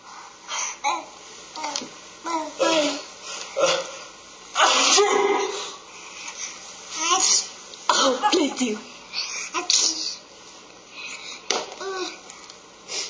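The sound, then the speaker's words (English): A father sneezes a few times in the background while young babies babble and vocalize, the sneezes sharp bursts amid the chatter. “So you're in the moment, you're going to see this is the adult, this is the father, who sneezes in the background.”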